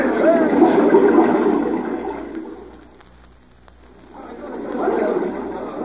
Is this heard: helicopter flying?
no